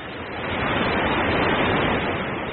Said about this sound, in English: Yeah, I do. I think it's the waterfall.